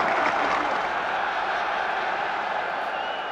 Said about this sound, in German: Manfred Schnelldorfer beendet seine Kür. Und Beifall für Manfred. Vielleicht ahnen es die 10.000, dass er jetzt gewonnen haben kann.